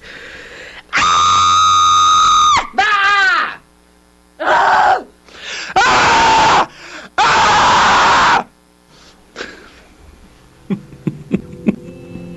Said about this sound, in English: I don't raise my voice with other people or really act out a lot. Calm, cool, collected, nothing bothers me. I don't scream often, so this should be interesting.